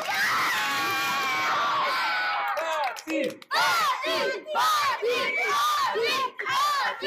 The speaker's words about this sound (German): Ein Applaus für alle, die heute nicht da sind. Ein Applaus. Zwei Applaus, die auch nicht da sind. Drei Applaus, die fast gekommen wären. Vier Applaus, die schon vor der Tür stehen. Und fünf Applaus für uns alle.